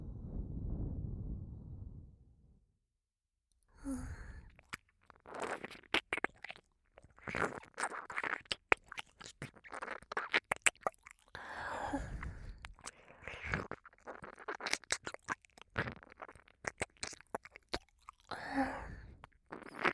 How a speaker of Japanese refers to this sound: ねえ、ねえ、耳舐めって知ってる？じゃあ、初体験ね。